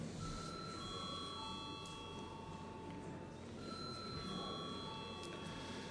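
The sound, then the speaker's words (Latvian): A parliament's voting call bell rings continuously for several seconds before a vote on the urgency of a bill, a steady electric tone over low room murmur with no clear speech. “Lūdzu, zvanu.”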